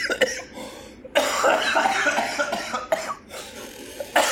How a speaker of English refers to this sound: That's a nasty cough you got there